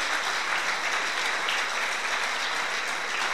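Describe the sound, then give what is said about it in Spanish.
An audience in a church applauds steadily to thank people for their faithfulness, a dense, even wash of many hands clapping that holds at the same loudness throughout, with no voices rising above it. “Y yo quisiera que los que estamos aquí les diéramos un aplauso por su fidelidad, por su permanencia, porque han estado con nosotros.”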